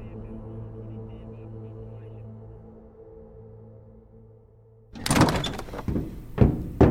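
A steady low engine-like hum runs for several seconds, then the door of an ice cream truck is pulled open with a loud rattling clatter and shut with a couple of heavy metallic thunks as the truck's interior is inspected.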